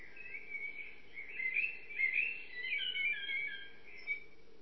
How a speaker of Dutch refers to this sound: En dan breekt die lente aan. De merel. Een van de eerste vogels die kunnen horen zingen.